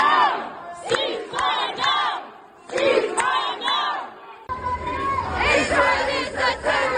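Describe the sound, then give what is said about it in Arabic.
A large crowd of protesters chants slogans supporting the people of Gaza and calling for an end to the aggression, in rhythmic unison, loud voices rising and falling in repeated bursts, then the chanting shifts into a denser, continuous roar of shouting near the end. “وفي كندا، أستراليا، إيطاليا، فرنسا، اليونان، اليابان وفي المالديف، حمل المتظاهرون الأعلام الفلسطينية فيما صدحت أصواتهم بالهتافات الداعمة لأهالي غزة والداعية إلى وقف العدوان على القطاع.”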